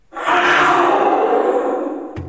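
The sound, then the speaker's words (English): A voice shouts into a conch shell to imitate a jaguar's roar: one loud, rough, sustained blast lasting about two seconds, with a raspy, resonant tone that fades slightly before cutting off. “Wow, so that was through a conch shell, that roar noise.”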